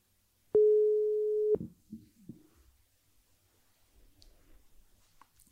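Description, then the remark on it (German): A single steady, mid-pitched telephone ringing tone on an outgoing call to a Panthers football expert sounds loudly for about one second, then stops abruptly, leaving faint clicks and low line noise in the pause. “Es klingelt schon mal.”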